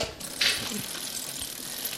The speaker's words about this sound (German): Dann, was man auf alle Fall sieht, ist da die rostige Kette. Das hört man auch da, der Schrei nach Öl.